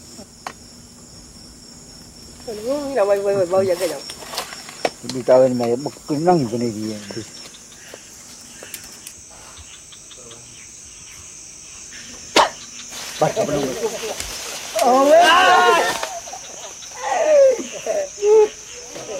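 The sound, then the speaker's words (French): A dart leaving a blowgun during a hunt, fired with a few sharp, sudden puffs, set against a steady high-pitched drone of crickets and insects, with indistinct voices rising and falling at times. “Le son de la flèche qui sort de la sarbacane”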